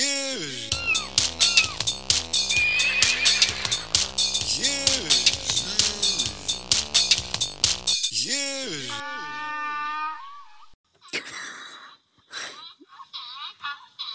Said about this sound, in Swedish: En åsna?